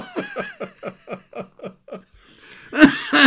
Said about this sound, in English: The cough. You cough, aren't you? I know, I bloody do. I don't know what it is, man.